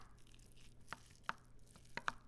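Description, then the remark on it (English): A fork working through thick buffalo chicken dip: about five short, sharp clicks and soft squelches at an irregular pace over a quiet background, with no talking. “No, I just use a fork. I'm sure everyone has those at home.”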